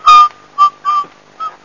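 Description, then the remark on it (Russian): Someone whistles a short, halting tune: four clipped, breathy notes at a steady pitch with brief gaps between them, and no talking. “Не свисти!”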